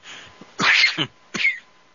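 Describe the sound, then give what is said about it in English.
A loud, sharp sneeze erupts straight into the microphone, followed a moment later by a shorter second burst, with near-silence around them and no talking. “I know they have this cough button here, but wasn't fast enough.”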